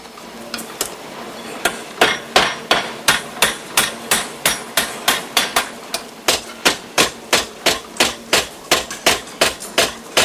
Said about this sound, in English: With two curled pieces, he hurries back to his vise, where he hammers a pin into each curl.